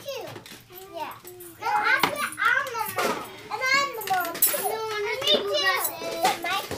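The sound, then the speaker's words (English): Several preschool children chatter and call out over one another during imaginative play at a learning center on the first floor of the Credit Union One building in South Anchorage, Alaska, their high voices rising and falling in a continuous, lively jumble. “On the first floor of the Credit Union One building in South Anchorage, preschool kids are deep into imaginative play.”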